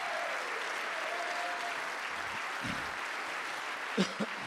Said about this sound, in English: Come on, somebody clap your hands unto him right now.